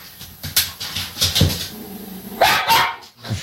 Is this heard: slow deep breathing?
no